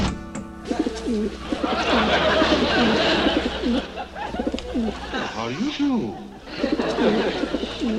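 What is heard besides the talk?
pigeon cooing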